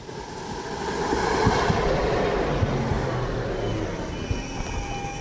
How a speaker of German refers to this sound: An der Haltestelle fährt eine Straßenbahn vor.